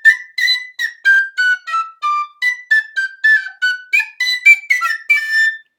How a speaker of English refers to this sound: Guess what? I can play the penny whistle, kind of.